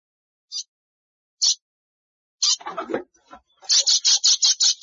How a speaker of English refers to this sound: Oh, what's that? It's a bird.